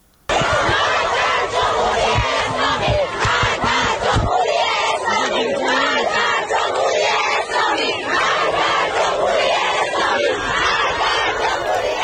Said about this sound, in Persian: در دانشگاه الزهرای تهران دانشجویان دختر علیه رهبر جمهوری اسلامی شعار دادند و پرچم جمهوری اسلامی را به آتش کشیدند.